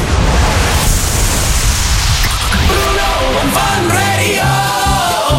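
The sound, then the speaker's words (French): A man's voice imitates an artificial snow cannon with a loud, continuous rushing hiss that shifts into strained, buzzing vocal tones and sputtering bursts toward the end. “mais en hiver, il fait aussi canon à neige artificielle.”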